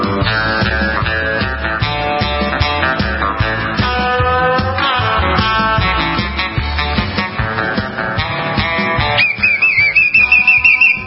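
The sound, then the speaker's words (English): Upbeat instrumental music plays throughout, and near the end a shrill, warbling whistle blast cuts in over it, trilling steadily for the last couple of seconds. “Watch out for the whistle.”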